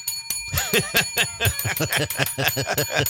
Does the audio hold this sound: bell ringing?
yes